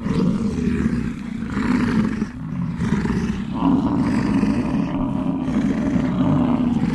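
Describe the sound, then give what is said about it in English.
A herd of male bison bellowing in a bison fighting storm: many deep, rumbling roars overlap into a loud, continuous chorus with no pauses for seven seconds, rising and swelling slightly midway. “What we just heard there was what we call a bison fighting storm.”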